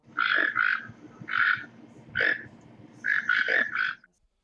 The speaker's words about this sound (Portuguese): Há muitos pássaros por aqui, tucano.